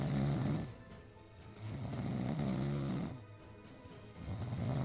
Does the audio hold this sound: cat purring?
no